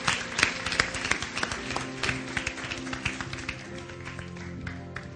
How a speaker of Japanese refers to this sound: Let's give the Lord a big clap one more time.